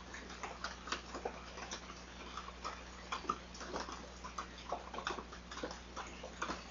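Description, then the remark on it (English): Quiet, steady patter of rain, heard as a scattering of irregular light taps and ticks over a soft constant hiss, with no voices. “I spoke too early about the rain by the sounds of it.”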